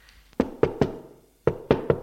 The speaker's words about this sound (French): L'on frappe à la porte.